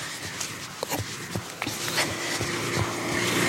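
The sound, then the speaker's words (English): A car passes on a narrow one-lane road, its engine and tyre rumble swelling steadily, while footsteps or scuffs tick irregularly as the walker steps onto the roadside bank, through a broad hiss with no talking. “There's actually a car coming towards me, so I'm going to have to step onto the bank while this car passes me.”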